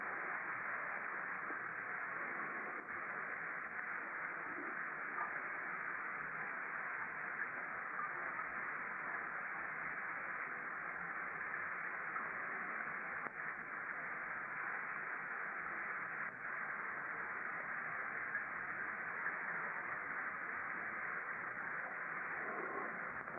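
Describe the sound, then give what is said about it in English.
Falling rain in England during a May–June retreat makes a steady, even hiss that holds at the same loudness for the whole stretch, with no voices and only the faintest scattered patters breaking the wash of sound. “It is wondrous just listening to the rain, isn't it?”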